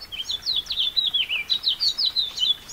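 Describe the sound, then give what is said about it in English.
A house finch sings a fast, jumbled warble of bright, rising and falling notes, steady throughout, over a faint hiss of light April rain falling in the Anza Borrego Desert in southeast California. “The sweet jumbled notes of a house finch rise above the sound of the rain.”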